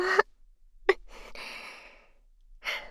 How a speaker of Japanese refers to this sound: なんかオタクくん、息遣い荒くなってきてるからさ。